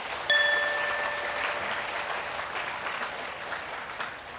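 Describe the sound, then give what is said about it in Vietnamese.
An audience claps in a sustained burst of applause to commit to the five moral precepts taught by the Buddha, dense and steady throughout, with a brief high ringing tone near the start that fades under the clapping. “Nếu như các bạn thấy là năm điều đạo đức Phật dạy là nền tảng luật pháp của thế giới và mang lại hạnh phúc cho con người trên quả địa cầu này, thì hãy cho tràng vỗ tay thật lớn để cam kết thực hiện.”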